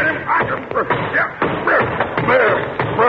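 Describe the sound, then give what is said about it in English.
An umbrella is whacked against the floor several times in quick, irregular strikes, each a sharp thud, by someone who mistakes it for a snake under a chair, amid a busy backdrop of excited voices. “You have just killed Mr. Chalmers' umbrella.”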